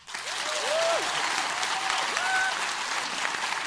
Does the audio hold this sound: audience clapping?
yes